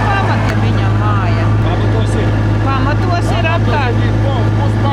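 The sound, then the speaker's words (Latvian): A motorboat engine drones steadily and loudly throughout, a low constant hum, while people talk over the noise, on a municipal inspection trip over flooded homes along the Daugava River in Latvia. “Par to arī Latvijas radio varēja labi pārliecināties pašvaldības rīkoties apsekojuma izbraucienos ar motoru laivu.”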